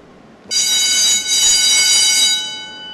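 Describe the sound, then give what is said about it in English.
A loud factory bell, used as a doorbell, rings continuously with a bright, harsh metallic clang in an enormous, dark factory whose machines stand idle. It starts abruptly after a moment of quiet, holds steady for about two seconds, then fades away. “That's a loud doorbell, right?”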